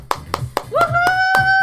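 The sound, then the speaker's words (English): Steady, evenly spaced clapping, about four claps per second, sharp and moderately loud, with a high sustained tonal cheer or whistle rising in partway through and holding over the claps, as parents applaud their kids on a children's show. “Once again, parents, let's give our kids a big round of applause.”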